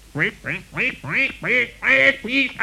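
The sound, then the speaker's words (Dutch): A duck quacks loudly in the reeds: about seven harsh, nasal quacks in a steady, rapid series, each rising then falling in pitch, with no talking. “Maar voor het zover kwam, hoorde hij vlak bij zich in het riet een hevig gekwaak.”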